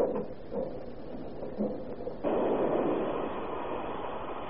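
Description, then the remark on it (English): A train rumbles into a station, its steady mechanical roar thickening partway through as it draws closer and fills the scene. No voices, just the continuous heavy noise of the approaching engine. “Here comes the train.”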